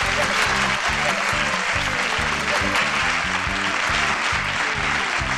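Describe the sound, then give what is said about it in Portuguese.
The people of the town of Cara Limpa clap loudly and continuously for El Cidadão for several seconds, a dense, steady wash of applause over a rhythmic low thumping beat. “O povo de cara limpa aplaudiu El Cidadão.”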